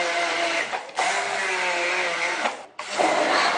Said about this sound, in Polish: Będziemy zaraz blendować, wrzucamy drobne kawałki mango. Żeby nie było za gęste, odrobinę wody. Niegazowanej oczywiście. No i działamy.